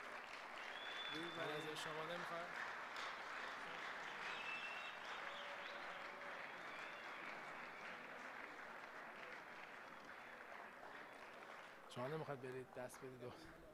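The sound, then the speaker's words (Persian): Warm, loud applause from a crowd honoring a professor, a dense steady wash of clapping that runs the whole length, with brief voices rising above it near the start and again near the end. “خب با یک تشویق گرم و بلند میخوایم از این استاد عزیزم تقدیر بکنیم.”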